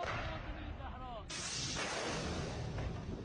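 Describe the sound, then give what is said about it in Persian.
A missile fires with a sudden, loud blast that turns into a steady rushing roar, following a moment of noisy rumble; smart guided Qaem and Almas missiles are fired from Mohajer-6 and Ababil-5 drones during a military exercise. “موشک‌های چشمدار هوشمند قائم و الماس هم از پهپادهای نوین مهاجر 6 و ابابیل 5 جنگ‌افزارهای جنگ الکترونیکی شلیک شدند.”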